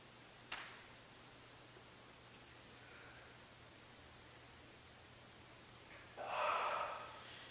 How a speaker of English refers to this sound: Along with the yawning, the sounds, distant barking, people. Everything for just this moment, just as it is.